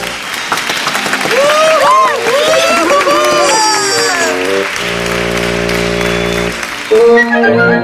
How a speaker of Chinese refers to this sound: 接着齿货、竹节虫和枯叶蝶一起合作表演梦幻隐身术，蜜蜂表演八字舞，精彩的表演赢得大家如雷的掌声。